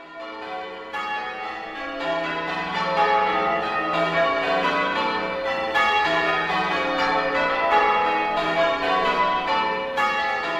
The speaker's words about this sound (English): John Betjeman was very keen on bell ringing, loved the sound of bells.